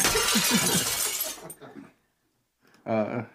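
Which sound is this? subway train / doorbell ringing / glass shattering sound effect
glass shattering sound effect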